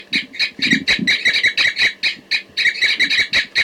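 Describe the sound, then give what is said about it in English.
Six caged birds call together in a rapid, overlapping chorus of high, raspy chirps and squawks, answering a bird in the next cage. The calls stay loud and continuous for the whole stretch, with no talking. “Now 40 and all 6 are cooping in response, I think, to 4-3 in the next cage.”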